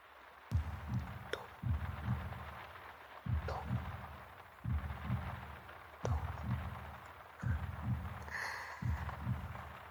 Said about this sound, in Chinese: 我啊，只要像这样和你贴得很近，就可以听见你的心跳。就像是这样，